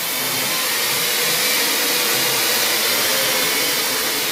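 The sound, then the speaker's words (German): A steady, high-pitched whirring buzz of a drone in flight holds at an even, fairly loud level for several seconds, with no voices and no breaks. “Tja, und so wird aus Science Fiction Alltag und schon haben wir die Drohnen im Studio.”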